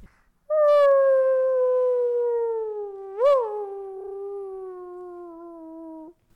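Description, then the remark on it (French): A single long arctic wolf howl, loud, holding a steady tone that slowly sinks in pitch, with a brief upward lift midway before trailing off. No other sounds accompany it. “Et moi, mon animal préféré, c'était le loup arctique.”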